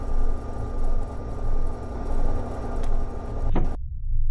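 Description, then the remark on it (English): A spacecraft's large bay doors grind steadily open with a deep, rumbling hum that swells in slow waves, then a rising whoosh near the end before it abruptly cuts off into a low drone. “Bay doors opening.”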